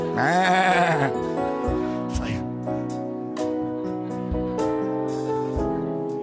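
sheep bleating

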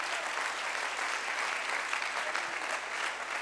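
audience clapping hands

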